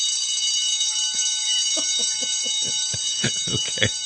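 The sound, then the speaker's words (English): A bright bell rings nonstop, its metallic tone sustained throughout, with a quick series of repeated strikes growing denser and louder toward the end. “I love the bell, Captain. I just can't stop ringing it.”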